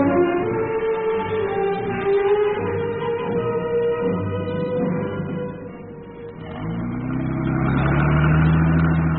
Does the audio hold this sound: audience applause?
no